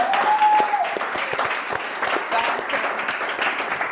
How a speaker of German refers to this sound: Applaus für Köln! Nur für heute!